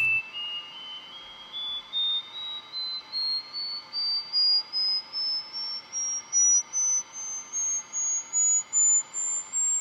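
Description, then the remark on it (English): A thin, high electronic test tone, played to a mosquito under a microscope in an experiment and picked up by a microphone, glides slowly upward in pitch, pulsing in a steady on-off rhythm against a faint hiss, with no voices present. “In this case, my sound, later on, the tone that we played.”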